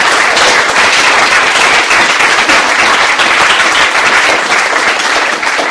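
Sustained, loud applause from a sizable audience for a speaker at La Peña, dense overlapping hand claps filling the room steadily for several seconds with no talking.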